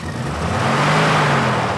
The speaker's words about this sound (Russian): Грузовик тронулся. В кузове загомонили, но Перец ничего не слышал.